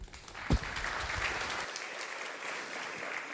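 An audience claps steadily, a dense wash of many hands that holds at an even level for the whole stretch, with one sharper thump near the start and no voices.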